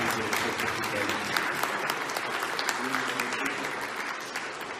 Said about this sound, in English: Would you give them a hand clap of appreciation?